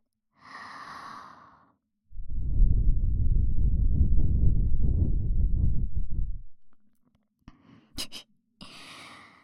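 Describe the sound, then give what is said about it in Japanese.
A steady stream of cool breath blown gently for about four seconds, with a rushing, airy rumble, framed by a quick inhale before and a soft breath and small mouth clicks after. “僕の吐息、ひんやりして気持ちいいでしょ。”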